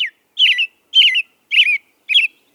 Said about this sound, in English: This cheery song belongs to the American robin. Belting out this distinctive message is one way that male robins defend their breeding territories from invasion by other robins.